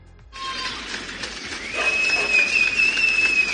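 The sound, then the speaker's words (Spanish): Steady, dense clapping from many homes across Argentina, applause dedicated to the football star Diego, a broad crackling wash that swells slightly, with a long piercing whistle cutting through the second half. “Anoche, desde las casas como en el confinamiento, Argentina dedicó este aplauso al astro del fútbol.”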